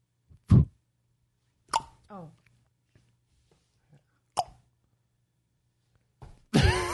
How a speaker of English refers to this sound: Lots of hands moving around. I don't know what's... It is the bocce ball.